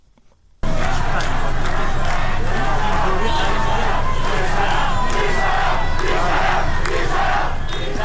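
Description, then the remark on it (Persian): A protest crowd in the Saadat Abad neighborhood of Tehran, Iran, gathered on a Wednesday evening, chants slogans in loud, rhythmic unison, a dense roar of many voices that surges steadily after a brief quiet start and holds for several seconds. “در تهران در محله سعادت آباد معترضان گرد هم آمده و اعتراض خود را با سر دادن شعار و به صدا در آوردن بوق اتومبیل ها نشان می دهند.”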